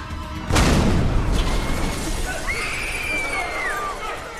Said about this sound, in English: There was an explosion in the terminal. We can't tell what it is from here.